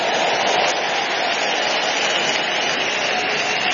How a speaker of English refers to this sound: Look at her there. Give the Lord a big clap, clap, clap of him.